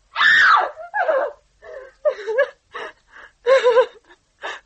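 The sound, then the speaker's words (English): A person screams, beginning with one long, piercing shriek followed by a string of shorter, ragged cries and gasps, loud with brief pauses between bursts. “You were still screaming.”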